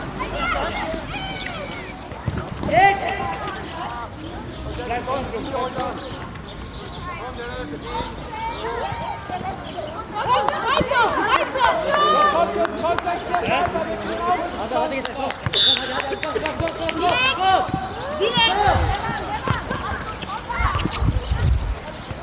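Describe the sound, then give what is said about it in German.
Grandchildren's voices shout and cheer steadily, cheering on their grandfathers playing a sports match, overlapping and rising in bursts, with thuds of a bouncing ball and running footsteps underneath. “Also, die ganzen Enkel sind dabei und feuern die Opas an.”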